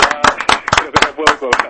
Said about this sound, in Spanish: Un aplauso. Un aplauso para ti de entrada ya, de Planeta Duna.